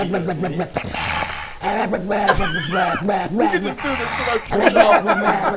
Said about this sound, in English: Is that a chicken or a dog? It's a dog.